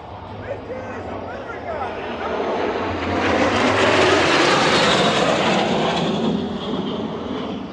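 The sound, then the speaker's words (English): A jet aircraft roars overhead, its broad rushing engine noise swelling louder toward the middle and then slowly fading as it passes, with faint voices underneath. “Oh, here come the Jets again.”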